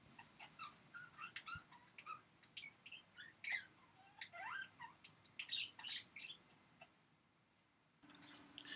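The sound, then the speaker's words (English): A lively chorus of birds chirping, with many quick, high tweets and trills overlapping for several seconds before trailing into a brief hush and some steady background noise. “Well, we'll be right back after a word from the birds.”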